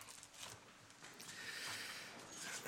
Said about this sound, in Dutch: Nou, zoals jullie horen, voor jullie staat een snotterende predikant.